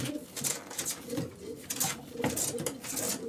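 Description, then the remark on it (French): Pigeons cooing in soft, repeated throaty bursts, several birds, with a faint clatter of background noise and no one speaking. “Ouais, parce que les pigeons sont sensibles, surtout à la gente féminine.”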